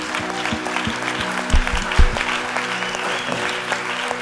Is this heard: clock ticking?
no